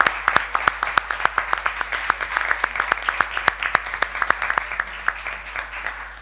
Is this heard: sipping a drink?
no